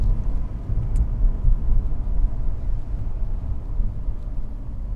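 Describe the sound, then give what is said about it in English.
Steady, loud road traffic noise: a continuous low rumble of passing vehicles that fills the whole stretch without any break, with no voices on top. “So I think, you know, oh my god, the traffic here is awesome.”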